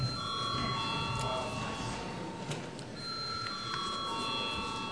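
A parliament chamber bell rings steadily for several seconds to call deputies to vote on a proposal, a sustained electric ringing tone above a faint background murmur.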